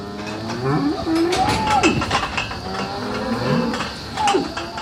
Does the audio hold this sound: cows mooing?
yes